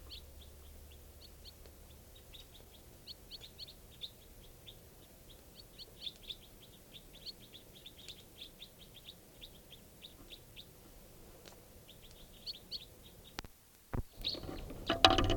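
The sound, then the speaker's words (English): A flock of about eight wild white-winged crossbills, high in a tall lodgepole pine above a camp at 5:05 p.m., gives rapid, repeated high chips and chattering calls over a low steady hum, ending with a few louder thumps and rustles. “and there's a flock of wild crossbills here, about 8 birds up in the top of a tall lodgepole right above camp.”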